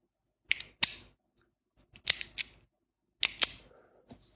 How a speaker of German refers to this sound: Ein Kugelschreiber ist das.